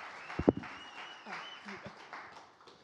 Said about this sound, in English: can you give him a round of applause because he played drums today and he's preaching, so.